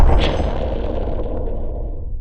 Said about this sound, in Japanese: 爆発音です。 そのようだな。